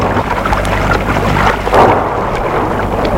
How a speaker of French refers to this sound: L'orage est de plus en plus fort. Il fait sombre.